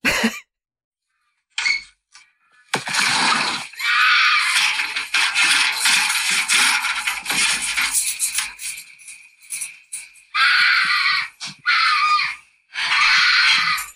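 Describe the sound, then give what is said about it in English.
A mountain lion screams at night, recorded on a phone voice memo from a dark backyard: a long, harsh, piercing shriek followed by two shorter raspy cries, loud, with brief silences between them and no talking. “It's a motherfucking mountain lion.”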